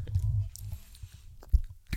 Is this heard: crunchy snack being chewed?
yes